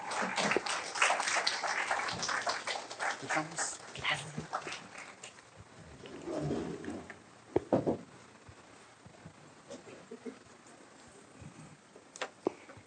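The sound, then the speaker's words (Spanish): An audience bursts into applause for an assistant instructor introduced to present on pre-Hispanic Mesoamerican architecture: a dense, steady patter of many hands for several seconds that gradually thins into scattered claps and fades away, with no one speaking. “Un aplauso para ella.”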